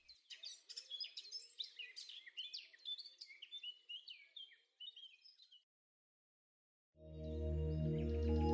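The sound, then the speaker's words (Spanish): A lively chorus of songbirds chirps and trills busily for several seconds, then falls silent before a loud, sustained droning tone swells in. “El sol se asoma en el horizonte, muchas aves le han dado la bienvenida al amanecer, entonando sus hermosos cantos o bien brincando de rama en rama”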